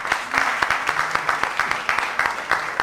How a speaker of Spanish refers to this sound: ¡Le damos un aplauso!